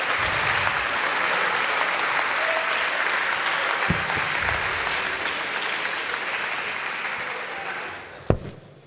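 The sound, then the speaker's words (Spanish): A crowd claps steadily in dense, sustained applause for nearly nine seconds, a thick wash of hand claps that fades slightly toward the end, with a sharp thump near the close. “¡Aplauso!”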